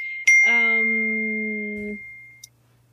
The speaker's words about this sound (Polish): Dzwony biją. Przepraszam, myśmy tutaj. Wiadomo, że dzwoni, ale nie wiemy w którym kościele.